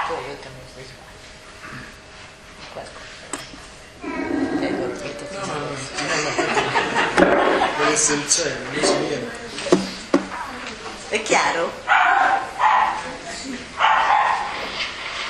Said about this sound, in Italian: Ammazzate il cane.